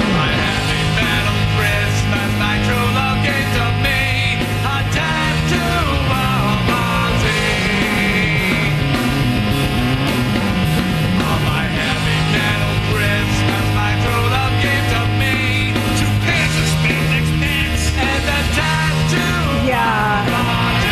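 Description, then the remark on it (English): A heavy metal Christmas song blasts at steady full volume for the whole stretch, with dense distorted guitars, pounding drums and loud, shouted vocals over the top. “Okay, I'm gonna play you this Christmas song.”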